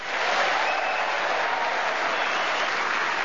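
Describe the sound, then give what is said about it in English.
A theatre audience at the refurbished King's Theatre in Southsea applauds loudly and steadily to welcome four panelists on Just a Minute, a dense wash of many hands clapping that holds at an even level throughout, with no voices standing out. “Would you please welcome all four of them?”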